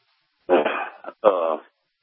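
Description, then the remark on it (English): A dog lets out two drawn-out, throaty vocalizations in quick succession, fairly loud, like grumbling back-talk, with silence before and after. “Now my dog's trying to fault me.”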